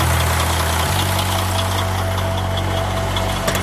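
A rough, struggling engine idles steadily while a man pumps the fuel filter, trying to get more fuel to the engine. Its low rumble drops slightly in pitch early on, with an uneven, rhythmic knocking ticking through it. No voices are heard.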